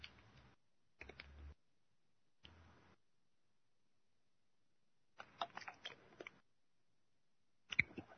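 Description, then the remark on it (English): Quiet mouth noises of someone sipping a drink: several brief wet, clicky bursts of slurping and swallowing, separated by silent pauses, with no talking. “A quick sip here.”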